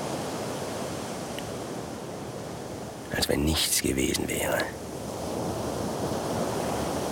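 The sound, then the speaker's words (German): Steady roar of ocean surf washing continuously in the background, a broad hiss of breaking waves, with a voice briefly speaking over it midway through. “Nur das verdammte Meer. Morgens, mittags und abends. Nichts als das verdammte Meer.”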